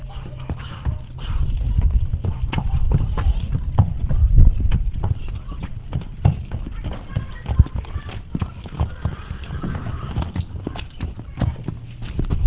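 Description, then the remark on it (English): Heavy hooves of Daniel, a shire horse at Umberslade, clop steadily across a farmyard at a walking pace as he is driven through a set of traffic cones, fairly loud over a low background rumble, with faint voices now and then. “and here he certainly demonstrates that he is the horse's master as he drives Daniel through a set of traffic cones which have been laid out in the farmyard.”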